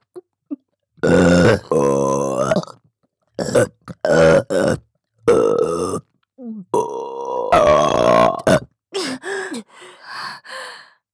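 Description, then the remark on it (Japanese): A series of loud burps after drinking, some long and croaky, others short, coming in uneven bursts with brief pauses and breathy sighs between them, no speech. “ゲップが出るとまた感じる。”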